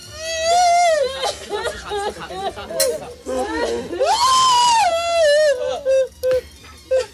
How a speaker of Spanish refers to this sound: Mirando al acuerdo de paz en Oriente Medio, pido a nuestros oyentes que se fijen en estos sonidos. Es una madre llorando de felicidad.